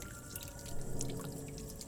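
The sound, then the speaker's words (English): Water pours into a glass, a steady trickle with bright splashy drips, about two seconds long, with no talking. “Some water would be nice?”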